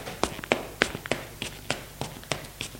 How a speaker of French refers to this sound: L'enfant ferme la porte et court dans le couloir.